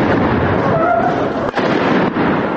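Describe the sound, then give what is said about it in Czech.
A dense, loud wall of gunfire and explosions from a counter-terrorism unit's demonstration staged for President Tomislav Nikolić rumbles continuously, with shots blurring into one roaring din and two brief dips where the noise momentarily drops away. “Na sve strane puca.”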